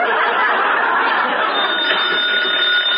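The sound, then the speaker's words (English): A telephone bell rings loudly and without pause, a bright, rattling, buzzy jangle that fills the whole moment, with no voices over it. “Oh, that darn phone.”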